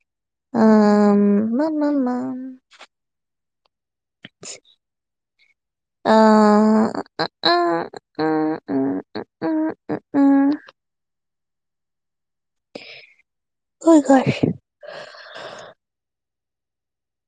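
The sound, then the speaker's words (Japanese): Someone yawns repeatedly, with drawn-out voiced yawns that rise and fall in pitch, broken into groaning pulses, followed later by breathy sighs and gasps. “Oh my goodness, oh my goodness, oh my goodness, oh my goodness, I keep yawning.”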